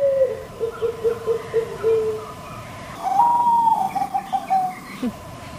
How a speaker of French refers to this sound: C'est une géopélie zébrée de Thaïlande, une cousine. Alors vous l'entendez, un très volubile de nos pigeons voyageurs. Ce chant a d'ailleurs remporté le premier prix d'un prestigieux concours thaïlandais.